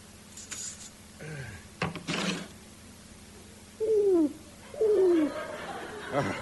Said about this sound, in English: The pigeon's out on the windowsill